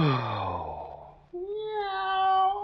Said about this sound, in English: A cat talking to the moon.